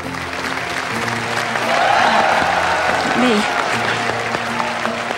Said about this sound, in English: The applause grows, and one by one, everyone in the auditorium stands.